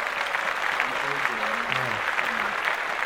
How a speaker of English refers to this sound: Clap that shit up.